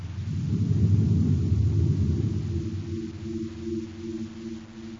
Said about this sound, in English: As Baccarati's ship roars away toward the northeast, a cloud of dust settles over the place where the prince had seen Buzz Corey's ship disappear in a blinding flash.